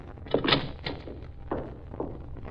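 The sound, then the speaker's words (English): A door is pushed open with a solid thunk and a brief rattle, followed by a few soft footsteps as someone steps into an attorney's office. “I got in through the door.”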